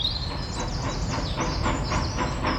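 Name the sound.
train running on rails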